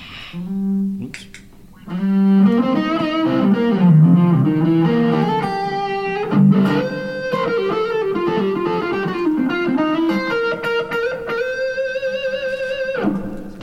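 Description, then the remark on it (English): A blue Les Paul electric guitar run through a Dynacomp, a Blues Driver overdrive pedal and a little reverb plays a slow phrase of sustained, bending notes and held chords, warm and slightly gritty, steady and fairly loud with no talking. “The blues driver in.”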